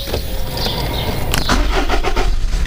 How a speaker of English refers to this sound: There we go. So we've now started up the engine and we're just waiting.